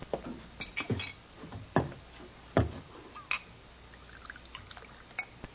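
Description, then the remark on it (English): A bartender pours rye whiskey into a glass amid a handful of sharp clinks and knocks of glass and bottle, spaced irregularly over a few seconds, with no voices. “Glass of rye, bartender.”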